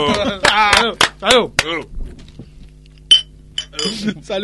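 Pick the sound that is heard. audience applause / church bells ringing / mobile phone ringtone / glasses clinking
glasses clinking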